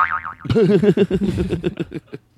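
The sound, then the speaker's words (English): A cartoon boing sound effect: a short wobbly whistle followed by a loud, springy bouncing twang whose pitch wavers rapidly up and down, fading over about two seconds. “You say it again, and then you play the booing sound,”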